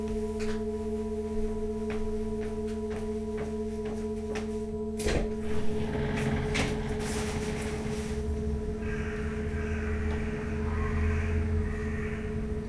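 household object, door being opened

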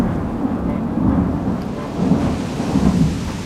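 nature, thunderstorm with rolling thunder

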